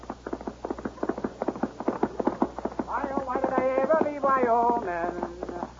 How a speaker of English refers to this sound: From out of the spacious west, blazing a trail swiftly through mountain, plain, and stream, comes the thundering hoofbeats of the great horse, Silverware.